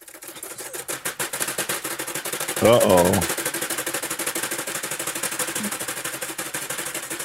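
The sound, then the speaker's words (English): A rapid, steady ticking of sharp clicks runs through the whole clip at an even pace, with a voice briefly speaking over it partway through. “I hear ticking.”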